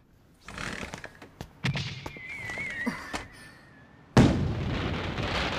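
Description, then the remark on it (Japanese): Fireworks burst in a quick run of sharp pops and cracks, with a whistling rocket trail rising, then a big booming explosion followed by a rolling crackle that fills the air, a fireworks display watched from a balcony. “うわあ、このバルコニーからだと花火目の前じゃん。”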